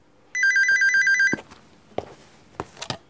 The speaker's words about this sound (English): She has just gone back into the house to answer the phone.